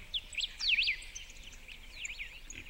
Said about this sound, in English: This is what it had sounded like up in the mountains, in our little bungalow in the middle of nowhere, waking up to the sound of bird song and a view of snow-capped peaks.